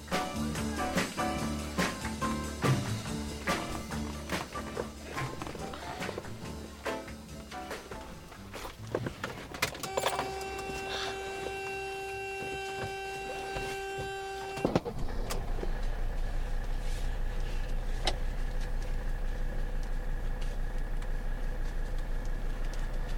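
Irregular clicks and rattles of a faulty car seatbelt fastener being fumbled, followed by a brief electronic tone and then a steady, droning engine hum inside the car.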